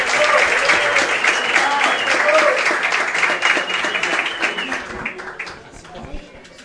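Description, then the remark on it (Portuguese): A crowd claps steadily in sustained applause, dense and fairly loud for several seconds, then thins out and fades toward the end. “Uma salva de palmas aí”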